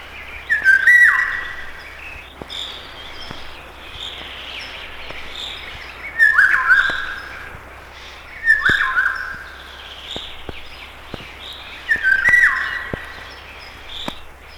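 A Eurasian golden oriole sings four short, fluty whistled phrases, spaced a few seconds apart, clear over a quiet woodland background with faint chirps from other birds, in a forest that has grown calm.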